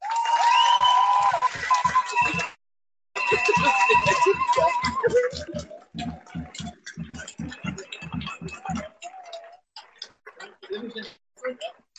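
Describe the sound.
Loud audience applause at a demonstration, with a steady, rhythmic clapping beat, briefly cut off after a couple of seconds, then resuming before thinning into scattered claps and murmuring voices. The applause thanks a man engaged with a peace boat.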